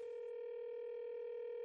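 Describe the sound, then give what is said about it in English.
A steady electronic ring tone on a telephone line holds one unbroken pitch with a buzzy, harmonic edge. It is moderately loud, and there is no talking. “It's ringing.”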